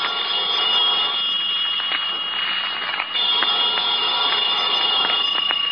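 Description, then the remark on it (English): A telephone rings on and on without pause around noon, a call from the clerk downstairs left unanswered; a bright, steady, metallic trill, fairly loud, with no voices. “I let the phone ring.”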